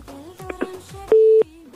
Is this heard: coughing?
no